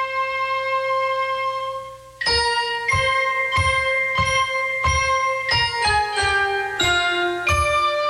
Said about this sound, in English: Just before they visit this back alley doctor, Angie and Rocky hear a love song on the radio. It's all about bells and banjos ringing.